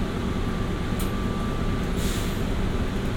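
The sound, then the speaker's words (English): Steady low rumble of an airport plane train pulling away, with a faint whine running underneath and two short hisses of air breaking through, with no voices heard. “aboard the plane train. Please hold on. This train is departing.”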